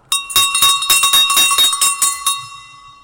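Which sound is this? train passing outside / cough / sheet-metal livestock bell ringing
sheet-metal livestock bell ringing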